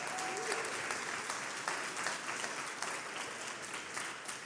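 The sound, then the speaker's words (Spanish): An audience applauds two people steadily, a dense, continuous wash of many hands clapping at even loudness for several seconds, with no speech over it. “Un aplauso a estos dos.”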